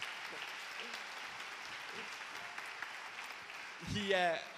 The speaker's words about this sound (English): He's back from his sabbatical. He's been away for 3 months. Can we give him a round of applause for returning?